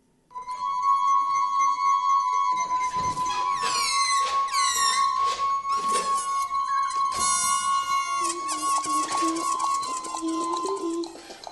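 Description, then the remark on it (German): A steady, ringing glass-like tone holds throughout while squeaky, sliding balloon squeals and rubbing bursts play over it, forming an odd experimental piece of music made by sixth-graders with a computer, balloons and glasses in a school culture program in the canton of Bern. “Sechstklässler produzieren ihre eigene Musik mit Computer, Ballonen und Gläsern.”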